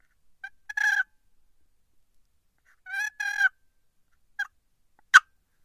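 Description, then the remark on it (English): A few short, soft turkey purrs, mimicking a hen, made on a wooden box call by barely moving the handle with slight pressure near the bottom. They come in brief rolling bursts separated by quiet pauses, clear with no talking. “Just a little purrs, just a couple itty bitty little tiny purrs like that.”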